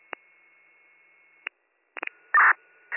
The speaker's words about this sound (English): Chief 95, cop direct, can you just put cancellation tones out for us? Receive.